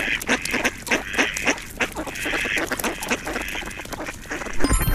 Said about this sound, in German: Zum Glück konnte ich dann noch Enten aufnehmen.